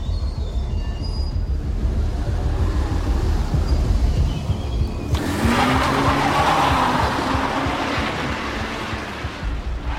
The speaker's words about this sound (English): A BMW saloon pulls up at a car park barrier. It lifts, and the car accelerates away into the dark streets.